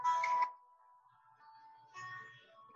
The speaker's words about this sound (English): Okay. Can everybody hear now? It's a song